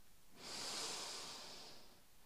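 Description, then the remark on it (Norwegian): A single long, deep breath drawn in through the nose during a guided breathing exercise, an airy hiss that swells quickly and then slowly fades over about two seconds, with no talking. “Pust godt inn med nesa.”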